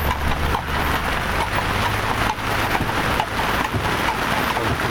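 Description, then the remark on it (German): Steady, dense rain drums on the taut canopy of a horse-drawn carriage, a continuous patter with a low rumble of movement underneath and no voices. “So hört sich das an, wenn ihr Regen auf das Kutschenverdeck prasselt.”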